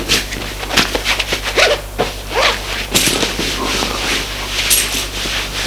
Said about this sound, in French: Il se déshabille.